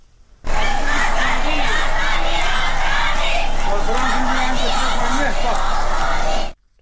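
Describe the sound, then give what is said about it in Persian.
A large crowd of students chants and shouts together at a protest march in Golshahr, Karaj, in a loud, continuous roar, with rhythmic rising calls repeating throughout before cutting off abruptly. “دانش آموزان هم در برخی شهرها به تظاهرات آمدند و در گلشهر کرج از جمله اقدام به راهپیمایی اعتراضی کردند.”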